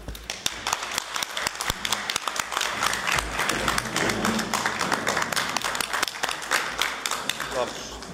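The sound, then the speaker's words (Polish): A crowd applauds steadily to bid farewell to a priest, many hands clapping in a dense, even patter that holds at a fairly loud level for several seconds without pause. “Żegnamy księdza oklaskami.”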